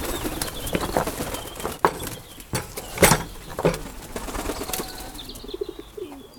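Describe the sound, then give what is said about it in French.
Pigeons flap their wings in a series of short, sharp bursts as they fly in to be fed, with quieter rustling and faint cooing in between and no one talking. “tu peux donner à manger aux poules et aux pigeons, parce que comme ça, ils vont rentrer.”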